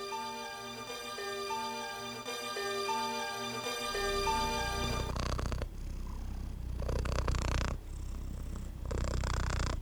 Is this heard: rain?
no